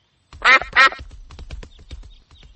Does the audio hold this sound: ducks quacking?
yes